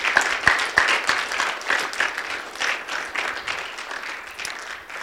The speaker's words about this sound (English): And I want to ask you that we give a hand clap, not for us, but for God, for what He did among us this year.